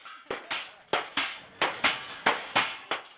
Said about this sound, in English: Asmara's huge Medibar market. Craftsmen hammer away, creating metal goods.